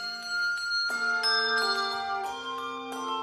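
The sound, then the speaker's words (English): Handbells ring in a steady sequence of bright, sustained tones, each strike adding new shimmering pitches that overlap and linger as a chiming cluster, with no voices present. “The enemy is the 300 million people out there who don't ring handbells.”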